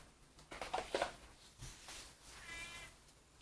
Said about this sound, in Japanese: あ、猫ちゃんだ。